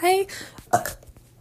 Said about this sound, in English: You know what? You're welcome for that burp. I apologize.